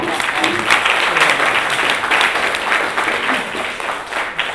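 Steady applause from an audience thanking a teacher after a talk, a dense wash of many hands clapping at a loud, even level throughout with no voices standing out.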